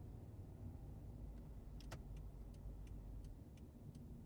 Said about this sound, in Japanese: ここから高速道路に乗るんだね。いつもより車多いよね。そうか。今日から3連休だから混んでるのかな。